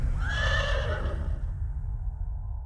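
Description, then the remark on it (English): A horse lets out a loud, shrill whinny as an axe is buried in its head, the strained cry lasting about a second before trailing off over a low, rumbling background. “Walter had buried his axe in his own horse's head”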